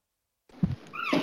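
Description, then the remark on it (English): A short, squeaky creak of a saloon door closing, rising and bending in pitch over about a second after a low thump, with no talking. “Was that the saloon door closing behind you?”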